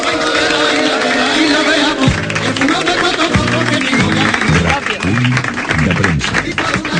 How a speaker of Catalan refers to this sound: Sisplau, demano a les 5.600 persones avui convocades a l'estudi de RAC1 un fort aplaudiment